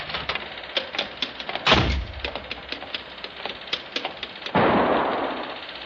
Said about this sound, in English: Hey, that was a gun. Who's there? Did you hear a gunshot?